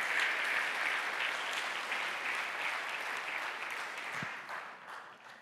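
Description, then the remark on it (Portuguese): An audience applauds the Lord again, steadily, a dense wash of many hands clapping at once, holding strong before gradually thinning toward the end. No voices stand out over the clapping. “Você pode aplaudir o Senhor novamente, porque você foi escolhido por Deus.”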